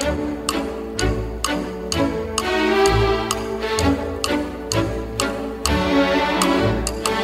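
A lively orchestral piece with a crisp, regular ticking percussion beat like a clock, playing steadily beneath sustained strings and brass at a moderate, close volume.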